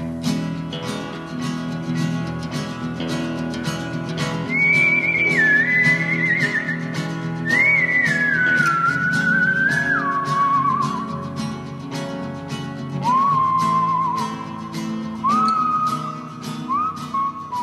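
A clear, sustained whistled theme melody with gliding, sliding notes rises and falls over a steady rhythmic musical backing with a regular beat; no one speaks.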